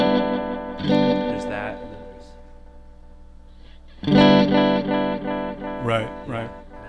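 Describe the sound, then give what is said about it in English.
A distorted, harmonically rich tone played through an echo pedal, with delayed repeats trailing each burst and decaying across several seconds, loud with a washy tail. “The coolest thing I think are the repeats. And you could change the intensity of the echo up a bunch.”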